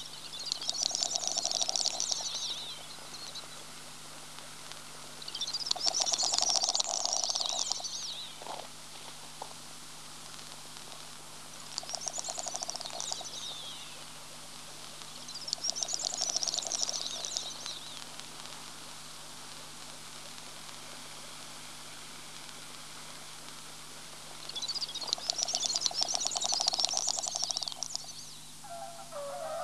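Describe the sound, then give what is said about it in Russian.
Small fowl calling on a lek at night, some fighting while others stand still: five breathy, hissing bursts of a couple of seconds each, separated by short pauses, over a steady low background hiss. “Одни дерутся, другие, стоя на месте, нашептывают в темноту свою странную песню.”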